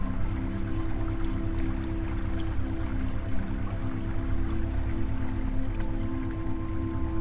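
A steady, continuous rush of a warm, fast-flowing stream, even in loudness throughout, layered over a low sustained humming drone, with no voices.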